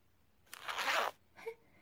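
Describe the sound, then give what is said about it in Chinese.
A boot zipper is pulled open with the mouth in one quick, continuous rasp, followed by a brief softer rustle. It sounds fairly quiet, with no one speaking. “一次性就将拉链拉开了，好吧。”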